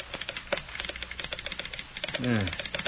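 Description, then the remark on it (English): A telegraph sounder clicks out an incoming message from Omaha in quick, irregular bursts of sharp taps, with a man's voice briefly cutting in near the end. “Something coming over the line.”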